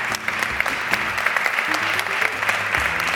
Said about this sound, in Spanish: Aquí está, aquí está. Recibe ese premio. Un aplauso enorme.